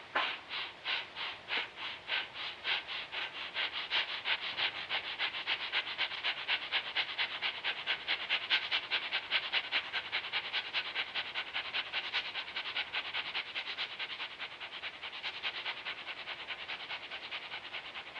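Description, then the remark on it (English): Rapid, forceful breathing exercise done in timed 30-second rounds: breath pumps in and out at a steady quick rhythm, each sharp breath loud. It runs without pause for the whole stretch, with no talking. “Evenly, calmly, but in and out trip hammer, like.”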